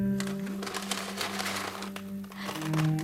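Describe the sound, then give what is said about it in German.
A plastic pet-shop bag crinkles and rustles continuously for about three seconds, fairly loud, with a steady low hum underneath and no voices. “Und gib mir deine Tüte, deine Zoohandlungstüte.”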